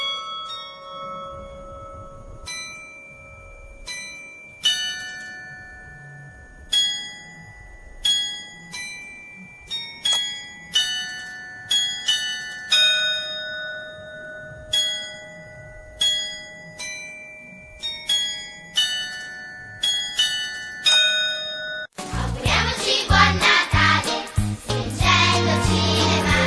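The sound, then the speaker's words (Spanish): A melodic sequence of struck bells rings out in a carillon tune, bright tones with long decaying overtones, followed near the end by a louder, denser burst of music. “Le vamos a despedir con un carrillón. ¿Me parece bien? Sí, es música de campanas.”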